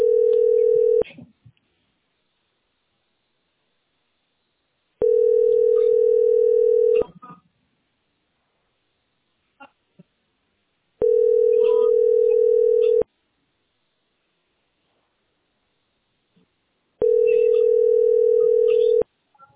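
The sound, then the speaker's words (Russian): A telephone ringback tone, heard while calling the company Teploenergo Sbyt SPB and waiting on the line, repeats four times: long, steady, even-pitched beeps about two seconds each, separated by roughly four-second pauses with only faint clicks on the line between them. “Почему я должна пробовать дозваниваться, блядь, до этих сраных сук, блядь, чтобы они услышали вообще звон телефона, нахуй.”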